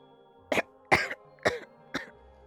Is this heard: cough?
yes